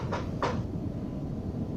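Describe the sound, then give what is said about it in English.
A door being opened: two quick wooden clunks, a light one followed by a firmer one, then a steady low hum with no voices. “Here, I'll open it.”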